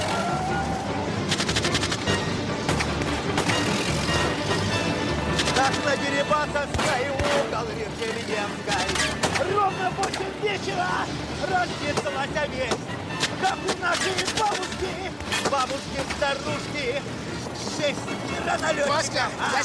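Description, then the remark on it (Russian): Bursts of gunfire crack repeatedly over a steady rumble of engines, loud, with shots in rapid clusters and scattered single reports, as police operatives and bandits shoot from the windows of cars during a chase after a truck. “Опера и бандиты стреляют из окон машин.”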